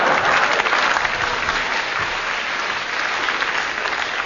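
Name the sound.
round of applause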